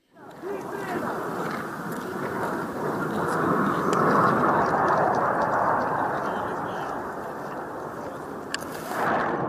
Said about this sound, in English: So we have video of some military planes flying over these blockades last September. So we'll play this for you.